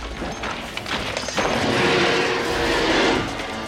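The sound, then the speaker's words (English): A glass cabinet is smashed: a few sharp knocks, then a loud, sustained burst of shattering and crashing that fades slightly at the end, as Bert smashes it to retrieve a shotgun and big bullets. Nobody speaks. “Smashing a glass cabinet, Bert retrieves a shotgun and some big bullets.”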